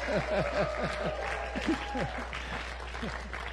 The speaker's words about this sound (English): Can we give the Lord a hand clap of praise and appreciation? Amen and amen. Hallelujah. Come on now, somebody.